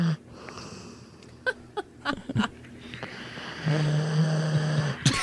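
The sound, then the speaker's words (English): A female dog snores loudly, with raspy wheezing breaths and a few snorts, ending in a long, droning inhale that sounds like a grown man sleeping. “Yes, this is me and my dog. Like, she sounds like a grown man.”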